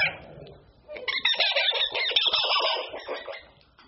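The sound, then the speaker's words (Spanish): A monkey gives a dense run of loud, chattering calls, overlapping shrill cries that rise, hold for a couple of seconds, then fade out, with no talking. “¿Qué escuchó? Claro, un mono.”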